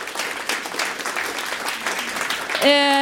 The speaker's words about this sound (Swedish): Tack så jättemycket Alexandra och alltså publiken, Alexandra Pascalido, vilken programledare. Ge en varm applåd.